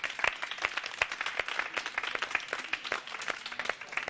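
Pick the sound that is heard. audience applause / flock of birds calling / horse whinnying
audience applause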